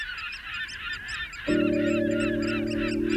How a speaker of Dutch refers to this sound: Nou, en mijn favoriete soort, de rotgans, zo ro, ro, ro.